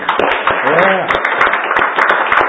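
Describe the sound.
A large crowd claps steadily and continuously in the morning, a dense wash of applause mixed with scattered cheers and voices calling out, loud throughout.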